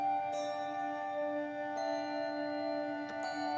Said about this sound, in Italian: Dopo che abbiamo esaurito, diciamo, le note del primo modo, come abbiamo ascoltato, le campane ci presentano il secondo e così via, e dopo ci sarà un'elaborazione del secondo.